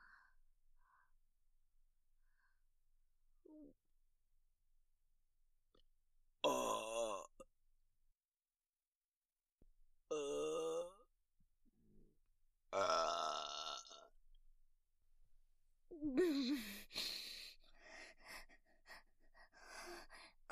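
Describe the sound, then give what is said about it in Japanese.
Four loud, drawn-out burps from close by, spaced a few seconds apart, each deep and throaty with a rasping edge, separated by near silence and faint breathing. “ゲップでしょ。”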